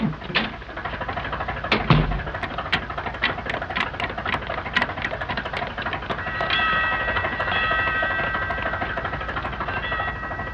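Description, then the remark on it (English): A ship's engine room telegraph signals the engine room for half speed with a run of sharp mechanical clacks over a steady engine rumble, then a sustained bell-like ringing that carries on to the end. No one speaks. “I heard the engine room telegraph.”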